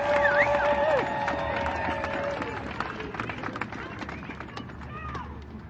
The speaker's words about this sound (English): I wish this crowd was even 100 times bigger, but boy, it is a big crowd. Hi, everybody. Yeah, give yourself a round. Pretty awesome.